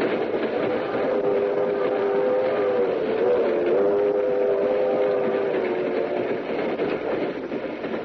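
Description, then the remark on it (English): A passenger train runs steadily on its rails with a constant, loud rumble and a faint, wavering metallic whine, continuous throughout with no voices. “We'll meet you on the train.”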